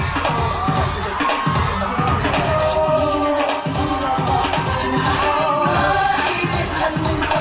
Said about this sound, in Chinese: 在年轻人们的欢呼中，晚会拉下了帷幕，期待着明年这些年轻歌迷们能再次相聚。